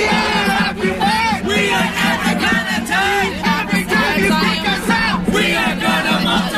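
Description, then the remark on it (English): A large protest crowd gathered at 14th and Broadway as police moved in on an encampment shouts and yells together in a continuous, loud roar, voices rising and falling in overlapping waves with no pauses. “Meanwhile, at 14th and Broadway, a crowd gathered.”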